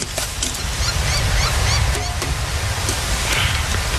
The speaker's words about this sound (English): Oh, dude, I'm sorry. Damn wind.